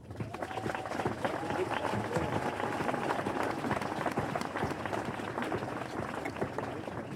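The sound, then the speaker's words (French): An audience at a live stage show applauds steadily for about seven seconds for two participants who agreed to take part in a sleep experiment, a dense wash of many hands clapping at an even loudness with no voices standing out. “ont accepté d'avancer avec nous dans le noir et de réaliser cette expérience inédite qui va à coup sûr faire avancer la science et le spectacle vivant, j'aimerais déjà qu'on les applaudisse bien.”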